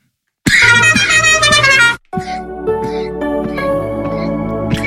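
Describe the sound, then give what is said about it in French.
A loud, sustained car horn blares for about a second and a half, bright and buzzy with a slightly falling pitch, then cuts off as layered music continues. “Joli klaxon, on dirait.”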